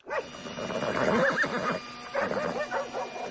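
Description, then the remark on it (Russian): Horses whinny in wavering, drawn-out calls mixed with dogs barking as they are harnessed to pull a bulldozer out of a river, a busy overlapping chorus of loud animal noises, with a short pause midway before more calls. “Впряглись снеговики, лошади, собаки.”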